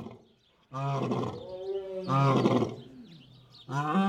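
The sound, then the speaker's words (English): Lions roar three times in quick succession, each call a deep, loud, rumbling bellow with a strong harmonic growl, separated by brief gaps. No one speaks. “Lions also paint, but not today. Something's up with them.”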